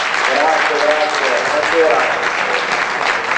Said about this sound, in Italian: Emanuele, questo è l'applauso del tuo casentino.